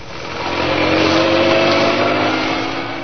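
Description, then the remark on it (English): A car carrying two police officers roars loudly and steadily as it careens out of the gates of Scotland Yard on two wheels, swelling as it accelerates away out of London towards Essex, with a harsh, buzzing revving tone that holds for a few seconds before easing slightly. “Inspector Manson and Sergeant Wright left Scotland Yard, careening out of the gates on two wheels, and roared out of London and into Essex.”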